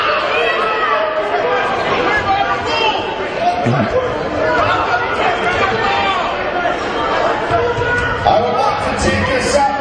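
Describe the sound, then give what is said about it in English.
A loud, continuous, echoing din of parents and fans in the stands shouting at the referees during a game, overlapping voices filling the space, with occasional ball bounces beneath. “the parents and other fans in the stands are shouting at the refs”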